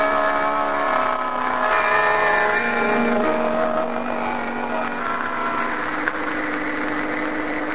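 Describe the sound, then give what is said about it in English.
A car engine idles steadily, a continuous droning hum with a slight wavering pitch, running alone without any voices for the whole stretch. “You stay here in the car.”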